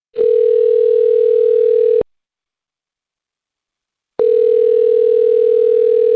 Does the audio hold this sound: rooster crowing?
no